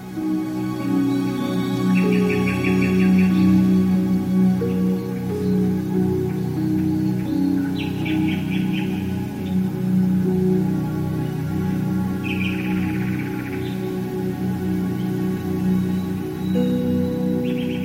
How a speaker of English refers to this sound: Ottorino Respighi may have been the first composer to use recorded birdsong in his 1923 work, The Pines of Rome.